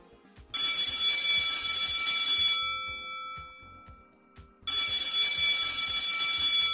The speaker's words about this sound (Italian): Niente, dovresti semplicemente suonare quel campanello. Questo? Sì, quello alle tue spalle.